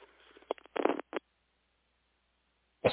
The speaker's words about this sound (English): Sorry. I'm like, oh, of course, she's wrapping up her comments, so this is a great time to cough.